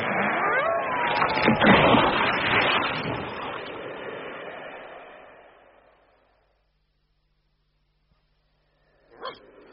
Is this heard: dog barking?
yes